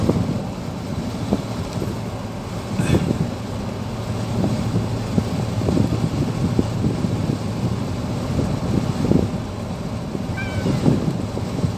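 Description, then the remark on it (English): A cat gives a couple of short, fairly faint meows, spaced apart, against a steady background of wind and low rumbling outdoor noise. No one speaks. “And yeah, good cat. You're a good big man now, aren't you?”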